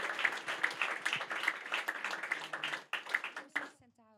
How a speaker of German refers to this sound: Ein großen Applaus für Jesus.